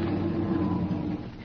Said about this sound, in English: But then I heard something else. The whir of machinery. The motors that ran the elevators. The shed was right here on the roof.